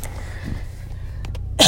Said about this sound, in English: sorry, I coughed.